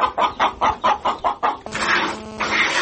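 A chicken clucks in a quick, steady run of about seven short clucks, then breaks into a longer, louder drawn-out cackle, with no talking, on a small farm raising goats, pigs and poultry near Kostiantynivka, Donetsk region, Ukraine.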